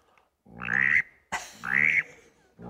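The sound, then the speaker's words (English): A person imitates a mallard drake's raspy call, giving two drawn-out, nasal quacks in succession, fairly loud, with a third starting at the end. “Here's the old greenhead, the old mallard drake. Now, the hen, this is the hen. And the mallard drake is like this.”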